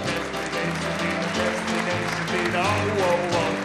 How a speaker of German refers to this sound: Ein Applaus für Hubert Siller.